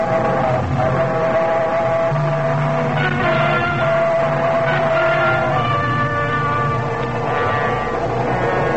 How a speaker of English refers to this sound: was only the train going through the tunnel, but it brought it all back. A scream and the train roaring by, the whole house shaking. When I heard that squeal, my arms jerked up.